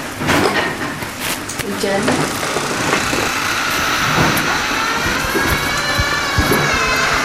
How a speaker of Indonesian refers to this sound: Ya, hujan nih, coba lihat.